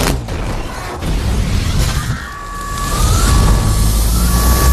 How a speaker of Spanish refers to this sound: Es el mismo sonido de la alarma de la nave Nostromo, la de Alien.